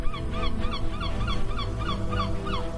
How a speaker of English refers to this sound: Gaza, October 7th. The sun is coming up. Boats are moving up and down in the cool sea breeze. Seagulls flying over the beach.